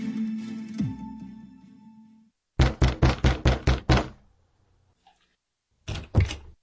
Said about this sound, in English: I climbed a flight of stairs to Big Flora's rooms over the saloon and pounded on the door.